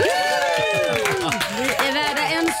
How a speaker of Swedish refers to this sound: Stora applåd.